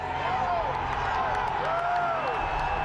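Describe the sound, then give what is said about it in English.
An agitated crowd of Trump supporters at the U.S. Capitol roars continuously, voices overlapping in a loud, unbroken wash with scattered shouts and whoops, as officers fire pepper bullets into it. A rising and falling whistle-like tone cuts through twice. “Officers tried to push back, firing pepper bullets into the agitated crowd.”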